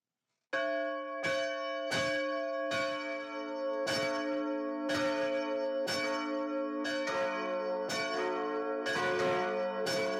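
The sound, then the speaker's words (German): Church bells, rung by hand in the bell tower of St. Peter's Church (Peterskirche), peal steadily, each stroke striking with a bright clang over a dense, lingering hum of overlapping tones, loud with no voices. “Denn in der Peterskirche wird noch per Hand geläutet.”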